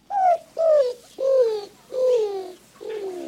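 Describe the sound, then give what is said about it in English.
A greater roadrunner calling: five low, dovelike coos, each sliding downward in pitch, evenly spaced and fairly loud, with the last one softer and no voices present. “New Mexico elected the Greater Roadrunner, a quirky emblem of the Southwest.”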